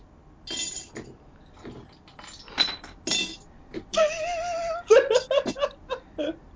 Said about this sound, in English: I'm seriously trying to be careful because, like, I'm in my bare feet and there's, like, shards of glass everywhere.